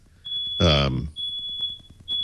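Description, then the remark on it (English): A smoke alarm sounds a shrill, high-pitched tone in long sustained bursts with short breaks between them, while a person briefly talks over it near the start. “Now your smoke alarm is going off.”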